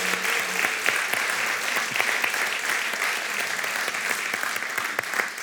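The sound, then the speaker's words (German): Sustained audience applause for the people being baptised, a dense, steady patter of many hands clapping at even loudness for several seconds, with no voices standing out above it. “Wirklich, gebt doch mal den Täuflingen nochmal einen Applaus.”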